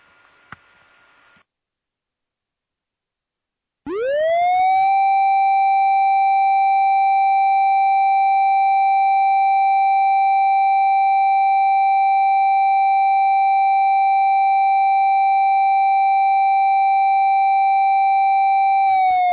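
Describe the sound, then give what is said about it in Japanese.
After a brief burst of faint noise and a pause, a loud outdoor siren winds up and holds one long, steady, unwavering wail for about fifteen seconds, beginning to dip at the end, sounded for the New Year fire brigade ceremony in Kiho Town, Japan. “ただいまより紀宝町消防出初め式の開催に伴う消臭サイレンを追命いたします。”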